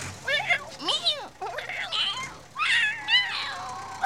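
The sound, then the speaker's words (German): High, wavering mews from two small lion cubs tumbling in a circus cage wagon, several overlapping calls rising and falling in quick succession, continuous throughout. “Zwei kleine Löwis purzeln und kugeln fröhlich mauzend durch den Käfigwagen.”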